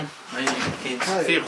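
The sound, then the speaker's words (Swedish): A door is unlocked and pulled open, with a few clattering knocks and scrapes while someone talks over it; a man unlocks another door leading to a long corridor with doors to the right and left in a new residential building. “han försöker låsa upp ännu en dörr som leder till en lång korridor med dörrar till höger och vänster.”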